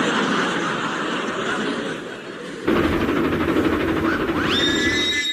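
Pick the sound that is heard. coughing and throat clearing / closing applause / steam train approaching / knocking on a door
steam train approaching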